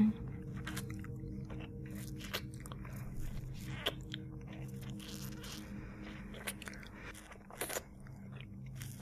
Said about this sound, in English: Sucking. And swallowing.